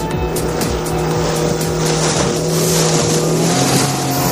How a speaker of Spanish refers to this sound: Una embarcación semirrígida, con tres potentes motores, pilotada por cuatro personas, este miércoles huyó mar adentro desde el caño de Santipetri en Chiclana de la Frontera.